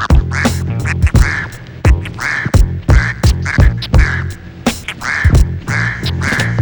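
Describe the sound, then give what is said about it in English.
A duck quacks over and over in quick, loud, nasal bursts, with a steady thumping rhythm running underneath the calls throughout. “This is about a guy who's gonna hunt ducks. Here comes that first duck.”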